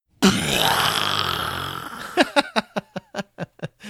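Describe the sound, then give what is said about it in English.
A voice imitates a bomb going off: a sudden loud, rumbling blast held for about two seconds, then breaking into a string of sharp, rhythmic huffs that quickly die away. “I don't know how that sounded in the microphone, but in my head, I make awesome bomb noises.”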